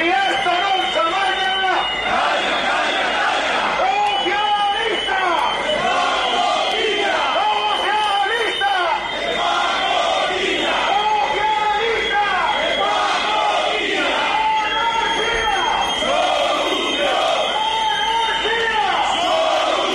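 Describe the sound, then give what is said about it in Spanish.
A large protest crowd chants slogans together in loud, continuous unison, many voices overlapping in a steady rhythmic roar that holds for the whole stretch. “Escuchamos algunas de las consignas que rezaban.”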